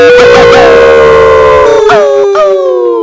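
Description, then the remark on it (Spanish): A person howls like a dog at the politician Gallardón over the new abortion law reform: one loud, sustained wail that holds a steady pitch and then wavers and slides near the end. No other talking. “Pues sí, le ladramos y le aullamos al señor Gallardón en este momento.”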